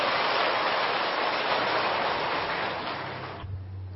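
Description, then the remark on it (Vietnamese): A crowd at a Buddhist retreat applauds a venerable monk lecturer with a dense, steady wash of clapping that holds for about three seconds, then stops abruptly, leaving only a faint low hum. “Xin quý vị dành những tràng pháo tay và chú ý lắng nghe.”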